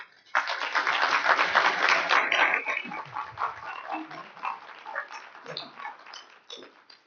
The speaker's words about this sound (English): Let's give the Lord a round of applause.